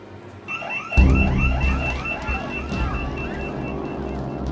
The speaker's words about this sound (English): On December 18th, the scanner's alarm blared. Employees dropped everything and ran.